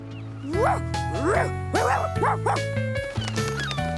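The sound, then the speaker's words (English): A young voice imitates a dog, letting out about five quick, yippy barks in a bouncy rhythm, fairly loud over steady background music. “Hey, look at me. I'm a dog.”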